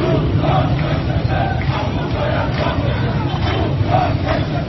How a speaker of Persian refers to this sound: اگرچه سرآغاز برخی از این اعتراضات مانند آنچه در روز دوشنبه در خیابان جمهوری تهران رخ داد، به گفته یک مقام امنیتی قطع برق بوده، اما معترضانی که در خیابان فریاد اعتراض خود را بلند کردند، مشکل را در جای دیگری دیدند.